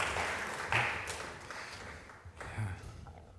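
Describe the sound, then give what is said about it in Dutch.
A church audience applauds in a steady, dense wash of clapping, moderately loud and sustained for a few seconds without talk. “Ja, nou, misschien kunnen we een applaus geven.”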